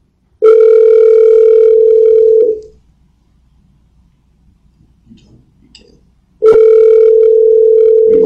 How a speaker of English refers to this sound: All right, he better answer the phone. This will be interesting.